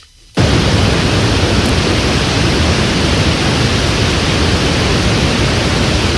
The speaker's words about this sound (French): Voilà, ça c'est un bruit blanc. Vous allez me dire, mais quel est l'intérêt ? Ça c'est une cascade. Non, c'est un bruit blanc. C'est un bruit blanc de 432 Hz.